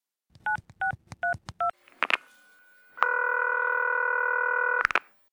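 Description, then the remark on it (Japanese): Four quick dual-pitched keypad beeps in a steady rhythm as someone phones Amazon's customer service center about a delivery that is not what was ordered, a click, then a long continuous multi-tone telephone signal that ends with another click. Clear, with no voices. “電話してみよう。”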